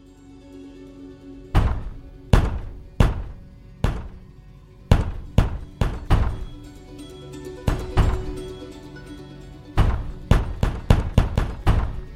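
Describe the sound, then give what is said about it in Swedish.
Loud, heavy fists of a woman pounding on a door in irregular bursts, single thuds at first, then rapid clusters of blows, with no voices. “Snälla du, sluta banka på dörren.”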